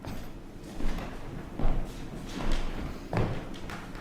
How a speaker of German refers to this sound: So, hier kommt, glaube ich, jemand zur Tür hinein.